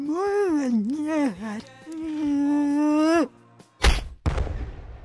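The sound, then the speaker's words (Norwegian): A long wavering vocal wail gives way to two sharp, loud smacking impacts, a blow landing on someone's face, with a brief ringing decay after. “fikk seg et slag i ansiktet.”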